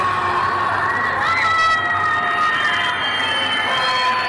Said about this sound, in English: And how could they not scream for help? Just look at this.